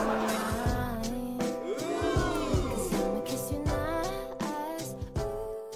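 A car brakes hard, its tires letting out a long, wavering screech over a steady engine rumble. The squeal rises and falls in pitch and stays loud.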